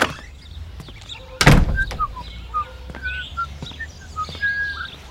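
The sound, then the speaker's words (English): A door thuds shut, then a bird chirps with a string of short, bright tweets at an uneven pace over quiet outdoor background noise. “Look at that bird.”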